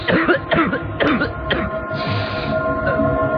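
A sick person coughs repeatedly at night, four harsh bursts in a steady rhythm about half a second apart, fairly loud, trailing into a low rumbling background.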